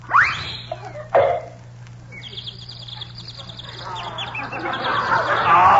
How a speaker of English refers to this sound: But I don't hear no birds. Turn your head a little bit more and you will.